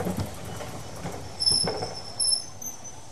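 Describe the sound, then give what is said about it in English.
A passenger train coming into Rugby rolls along the rails with a steady low rumble, a couple of heavier clunks from the wheels, and thin, high-pitched squeals of metal cutting in and out. No one speaks. “As we were coming into Rugby, I looked out and checked down the train.”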